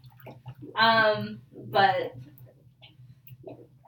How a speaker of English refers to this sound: so I feel like there was more water before, but then it was like when the jacuzzi started, it just like took some water. I don't know.